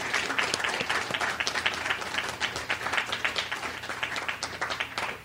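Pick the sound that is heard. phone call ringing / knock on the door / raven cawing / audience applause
audience applause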